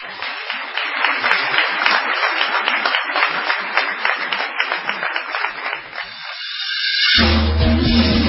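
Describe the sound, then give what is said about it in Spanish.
A crowd applauds steadily for about seven seconds on a radio show, a dense, crackling wash of many hands clapping, before it cuts off abruptly and low music begins as the show goes to a break. “Quizás podremos utilizar el envión del aplauso.”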